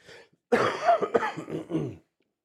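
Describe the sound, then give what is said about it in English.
A harsh, chesty cough bursts out in a rough fit of several hacks lasting over a second, preceded by a faint throat sound, with no talking. “That's my first real bad cough, though.”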